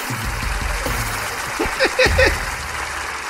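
An audience applauds: a steady, dense wash of clapping that runs the whole way through, swelling with a few sharper, louder bursts in the second half.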